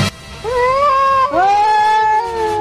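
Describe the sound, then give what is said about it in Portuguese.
A cat meows twice in a row, two drawn-out, whining cries, the second one longer and trailing off, with no other sounds around them. “Cuidado com o gato.”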